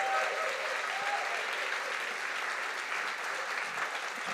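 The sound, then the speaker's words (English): Sustained applause from a church audience in appreciation of the church staff and coworkers, a dense, steady wash of many hands clapping at an even loudness throughout, with a few faint tonal sounds early on. “So instead of one clap, let's just give one another just a big.Just appreciation.”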